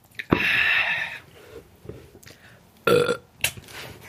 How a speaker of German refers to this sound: Ich kann auf Kommando rülpsen jetzt, aber ich nehme noch einen Schluck.